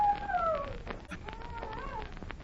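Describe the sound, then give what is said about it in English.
A dog howls in a long, wavering wail that slides downward in pitch, then rises faintly again, coming from near a lone pine, against a soft background hiss with a brief click midway. “Yes, I hear it. It's a howling dog.”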